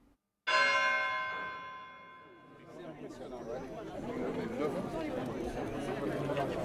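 A single loud church bell strike rings out and hums as it slowly fades, then a busy murmur of crowd chatter rises and fills the rest of the scene.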